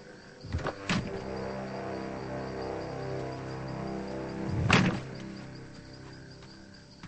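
A car door clicks open with a couple of sharp latch knocks as a person gets out of the car, followed by a quiet stretch of engine hum and then a solid thunk as the door shuts.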